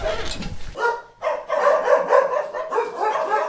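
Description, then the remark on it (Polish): A dog that came from Ukraine barks at a foundation in Łódź in a quick run of repeated yaps, with a brief rustling noise at the very start and no voices over it. “zejdźmy w takim razie, bo ja wiem, że tutaj już na terenie fundacji znajduje się jeden z tych psów, które trafiły z Ukrainy właśnie tutaj do Łodzi.”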